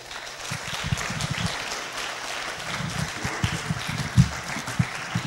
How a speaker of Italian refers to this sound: Un applauso e grazie.